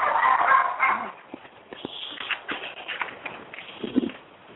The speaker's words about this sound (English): I know it sounds probably funny because I'm actually walking my dog, and you'll hear more dogs in the background. I'm sorry. I'm surrounded by dogs all over the place.